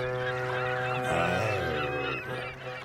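A short, loud jingle opening the 'zeecontainer commercial' segment, with brassy, honking horn-like tones: held notes at first, then a burst of shifting, sliding pitches before settling again. No one speaks.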